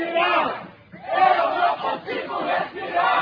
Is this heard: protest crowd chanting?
yes